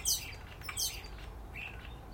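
A single bird calls in short, high bursts: two sharp squawky notes, then a softer, lower trill, over a quiet low rumble with no voices.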